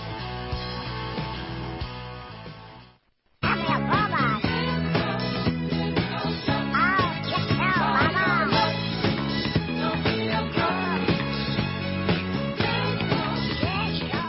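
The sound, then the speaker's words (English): A bouncy, upbeat disco-style music bumper for the cooking show Cooking Like a Pro, with duck-like quacking vocals over a steady beat, briefly cutting out near the start before resuming loud and full. “I couldn't find a kitchen, or excuse me, a chicken bumper, so we went with the duck.”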